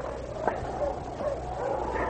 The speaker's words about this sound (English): They had only gone about a quarter of a mile when they heard dogs. Now listen, they're a lot farther away than the cabin. Must be on the main trail to town. But the dogs at the cabin also heard the distant team and howled a reply.